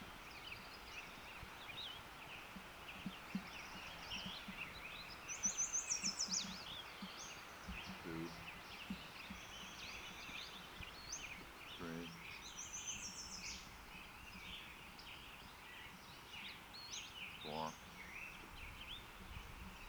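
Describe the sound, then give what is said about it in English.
Thin, high-pitched bird calls come in short, scattered bursts over a steady hiss of background noise, with a few brief rustling sounds in between. Western Flycatcher calls. “Western Flycatcher number 7.”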